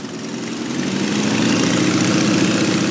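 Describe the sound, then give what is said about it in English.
A small open-cockpit airplane engine runs at a steady idle before takeoff, a dense, buzzing low drone with a rough mid-range hum that swells slightly louder over the first second and then holds. No voices. “She takes me outside and puts me in one of her airplanes, piloted by a colleague.”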